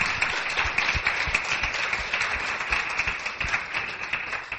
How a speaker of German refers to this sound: So I want to join you to give a praise to Jesus for that. So let's give Jesus praise. Und deshalb möchte ich gerne, dass wir Jesus dafür einen Applaus geben.